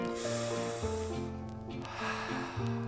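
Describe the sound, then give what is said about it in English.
A deep breath drawn in and then let out, two airy rushes over a bed of steady, sustained musical tones. “All you gotta do is breathe.”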